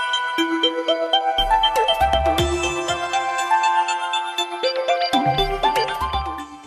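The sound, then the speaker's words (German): A short piece of sound design meant to evoke a sour taste, developed through a multi-stage study with about 500 test subjects: bright, bell-like synthetic tones climbing in quick stepped runs over low pulsing bass notes, played alone without any voices. “Es sollten Klänge gefunden werden, die die Geschmacksrichtung sauer beschreiben. Und das ist das Ergebnis.”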